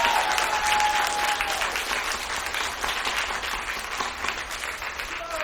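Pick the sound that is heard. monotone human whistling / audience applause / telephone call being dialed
audience applause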